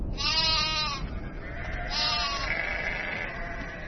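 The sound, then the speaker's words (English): Sheep bleat twice, each call a wavering, quavering cry about a second long, clear over a steady outdoor hiss, with no voices. “In 1946, a small Bedouin shepherd boy was watching his sheep.”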